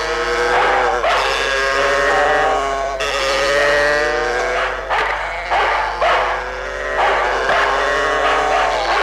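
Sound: dog barking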